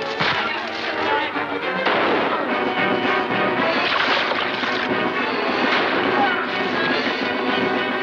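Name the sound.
gunfire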